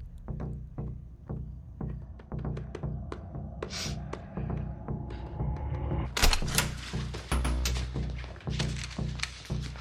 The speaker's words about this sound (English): But he looks down and he notices Will, his two little fingers on the right side, tapping something on the chair.